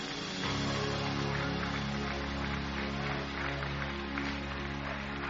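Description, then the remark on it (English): A church audience claps steadily together in praise of the Lord over sustained music with strong low held tones. The dense clatter of many hands fills the whole stretch at an even, loud level. “Give him a hand clap tonight and praise him.”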